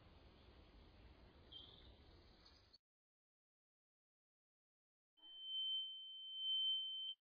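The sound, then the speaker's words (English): A burst of rushing noise cuts off into silence, then a steady, piercing ringing tone swells in, a low ringing in the ear after a blow to the face, holding for about two seconds before stopping abruptly. “There was a low ringing sound in his ear as he blinked his eyes.”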